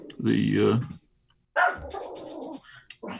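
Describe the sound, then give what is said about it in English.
A dog barks loudly, one drawn-out woof followed after a short pause by a rougher second bark and a brief final yip. “Is that how they responded, by barking?”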